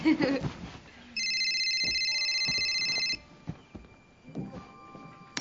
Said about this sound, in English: Excuse me, I have to take a phone call.